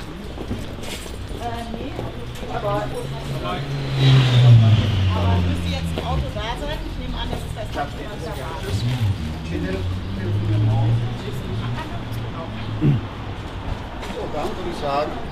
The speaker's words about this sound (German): Kein E-Auto. Bitte? Das ist aber kein E-Auto.